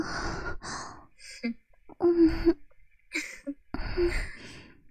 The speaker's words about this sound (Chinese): 听到他的喘息了